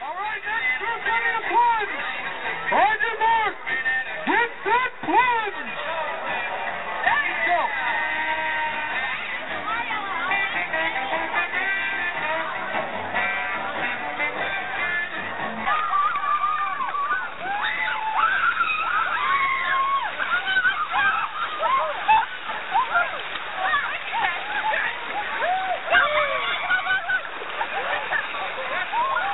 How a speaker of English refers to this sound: If you guessed excited people running into near-freezing water, you were right. But the real mystery is, why did over 200 people jump into the cold New River one day in January 2011?